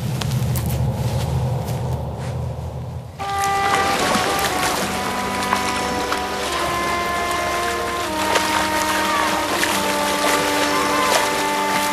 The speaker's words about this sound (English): While these elephants play, they cool down in the muddy water. Mud collects in their folds and holds moisture near the skin when they leave the pool.